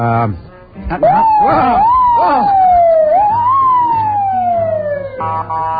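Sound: police car siren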